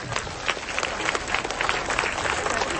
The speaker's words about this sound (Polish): Kochani, brawa, brawa dla naszych przyjaciół z Bochum.